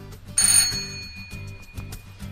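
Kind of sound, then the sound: household object, doorbell ringing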